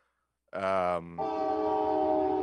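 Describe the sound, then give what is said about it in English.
A loud train horn blares in two long blasts, the first a rich chord lasting half a second, then a brief dip before a second sustained blast that holds steady to the end. “The train agreed.”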